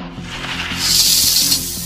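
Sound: snake hissing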